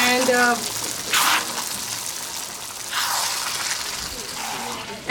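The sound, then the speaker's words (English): Water runs steadily into a cooking pot for cooking rajma, a continuous hiss that surges louder twice, with a brief murmur of voice at the very start. “Okay, so this is going to have a lot of water, but we just want to cook.”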